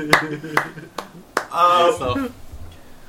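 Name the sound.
hand clapping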